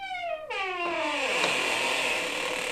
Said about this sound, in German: Die Tür öffnete sich mit einem gespenstischen Quietschen.